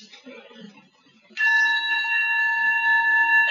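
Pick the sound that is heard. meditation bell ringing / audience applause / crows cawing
meditation bell ringing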